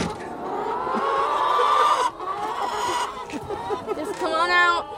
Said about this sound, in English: For them, it's time to let out the chickens.